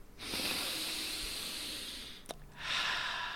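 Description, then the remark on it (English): A long, loud, deliberate breath drawn in sharply through the nose, a hissing airy rush lasting about two seconds, then a brief pause and a second forceful sniffing inhale, with no talking. “Breathing in through your nose is so awesome.”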